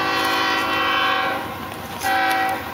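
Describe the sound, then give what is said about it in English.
The horn of a freight train, the migrant train in Mexico known as La Bestia, blares loud in long sustained blasts, dipping briefly before sounding again, while the steady rumble of rolling rail cars continues underneath. “At one point, he even got on the infamous migrant train known as La Bestia.”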